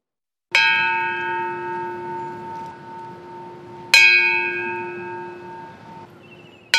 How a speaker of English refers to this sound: That's some of the 179 times that bell tolled this morning for people in North Carolina who died on the job in 2021.